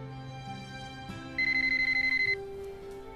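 A telephone rings with a rapid, pulsing electronic trill lasting about a second, over a steady background of sustained tones, one of many calls coming in one after another.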